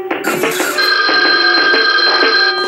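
A telephone bell rings loudly and continuously, a bright metallic trill with steady high tones held throughout, without any voices over it.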